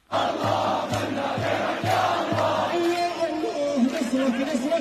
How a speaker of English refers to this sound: A chant of praise to God from Homs.